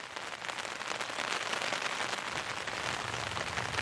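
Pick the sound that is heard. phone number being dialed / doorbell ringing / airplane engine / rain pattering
rain pattering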